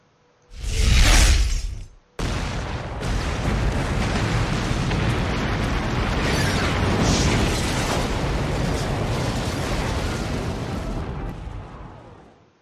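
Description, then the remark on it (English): A loud explosion from a missile hitting a building booms for about two seconds, then breaks into a long roar of crashing, crumbling debris as the building collapses, rumbling steadily for ten seconds before cutting off. “the missile hit the building itself.”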